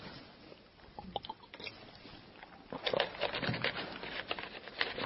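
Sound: taking a sip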